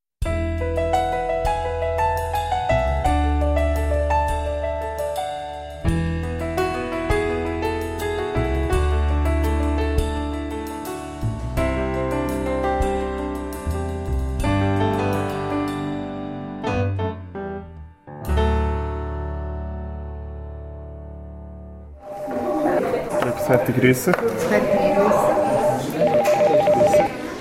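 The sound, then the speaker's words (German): A busy phone bank where hundreds of women and men take donation pledges for a charity appeal: layered electronic telephone tones and rings overlap steadily and loudly, then give way to a dense murmur of many people talking at once. “So tönt's, wenn Hunderte von Frauen und Männern für die Glückskette Spendenzusagen entgegennehmen.”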